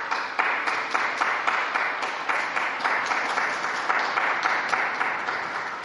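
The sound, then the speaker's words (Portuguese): Sustained applause from the crowd in St. Peter's Square at Pope Francis's Angelus, for young Portuguese who handed the World Youth Day symbols to the Korean delegation: a dense wash of many hands clapping at a steady, even level for several seconds with no pauses and no speech over it. “Uma salva de palmas aos jovens portugueses que entregaram à delegação da Coreia os símbolos da JMJ para prepararem a jornada de Seul em 2027 e, portanto, palmas também aos coreanos.”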